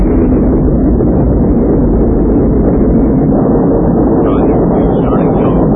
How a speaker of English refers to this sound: We have ignition. 6, 5. We have outboard engines. 3. We have inboard engines. 1, 0. We have a launch commit. We have a liftoff in 35 minutes after the hour.